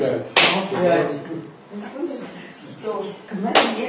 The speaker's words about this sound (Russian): Опять хлопаем по ногам, видите? Бедные ноги. Уже и столько путей исходили, и все получают хлопки. А погладить? Учимся вместо хлопков гладить, а там, где гладим, хлопать.